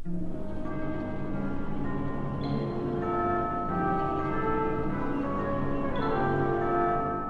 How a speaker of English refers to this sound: The air stirs, and a fresh breeze conveys the distant sound of bells. It's a breath from another world, the world of the coming new day.